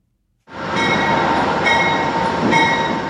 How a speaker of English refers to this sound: An Amtrak train pulls into the Niagara Falls, New York station. It's just a few miles away from the famous falls